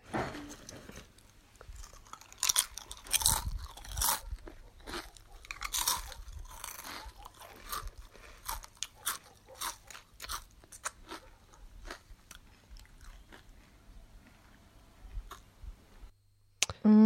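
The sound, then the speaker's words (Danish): Crisp, irregular crunching of fried-egg-flavoured chips being chewed as a snack while sitting on a mountain, with dogs audible in the background; sharp bright bursts repeat for several seconds and gradually thin out, no talking over it. “Det var en snack, der var på Entry, for da jeg sad og spiste nogle chips med spejlægsmag.”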